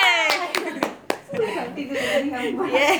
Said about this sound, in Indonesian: Tepuk tangan dulu yuk. Tepuk tangan. Yeay.